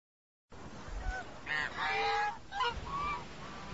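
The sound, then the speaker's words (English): Several white geese with orange bills, which live at this spot all year, honk loudly in a noisy run of harsh, nasal calls, some overlapping, with a brief lull partway through before more honking follows. “The white ones with the orange bills are very beautiful. They live here all year.”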